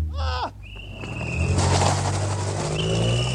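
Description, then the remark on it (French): A car engine revs hard and roars off during a kidnapping on a London street, its rushing noise building and staying loud, with a thin high whine riding over the motor. “Un enlèvement ! Je n'ai vu que cette voiture là-bas !”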